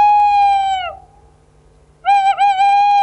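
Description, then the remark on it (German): An owl hoots twice, loud: a long steady hoot, a second of quiet, then another drawn-out hoot that wavers slightly in the middle. “Eine Eule zum Beispiel.”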